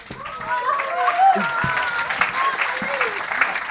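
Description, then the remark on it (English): A crowd claps and cheers steadily for a volunteer coming up to the front for nearly four seconds, a dense wash of applause with scattered shouts and whoops rising above it, fairly loud. “Here comes Luke. Give him a cheer.”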